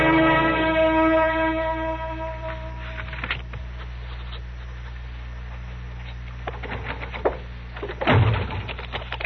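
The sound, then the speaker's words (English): A door slips out of someone's hand and slams shut with one loud, heavy bang near the end, after a stretch of faint creaks, clicks and a soft wavering tone. No one speaks. “The door just slipped out of my hand. That's all that happened. You nearly broke it off.”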